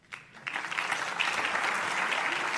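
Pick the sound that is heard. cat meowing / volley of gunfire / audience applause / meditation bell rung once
audience applause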